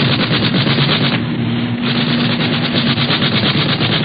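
Rapid, continuous machine-gun fire from an aircraft in a dogfight in the clouds rattles loudly over a steady, droning engine hum, with the bursts easing briefly partway through before resuming at full intensity.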